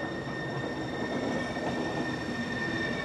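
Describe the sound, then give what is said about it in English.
A cogwheel train rolls steadily along its rails on Germany's highest mountain, a loud, continuous rumble layered with thin, high metallic whines that hold throughout, with no voices. “You travel up and down by cogwheel train or cable car, great for non-skiing tourists.”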